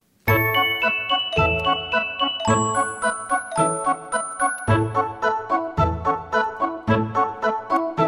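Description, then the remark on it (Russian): Harness bells on a running horse pulling a sleigh jingle steadily and brightly in a quick, even rhythm, as if shaken with each step, loud with no voices. “Лошадка бежит, копытами стучит, колокольчиком звенит.”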